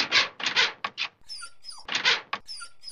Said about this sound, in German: Und dann kratzte Waldi an der Tür. Und das bedeutete, er wollte Gassi gehen.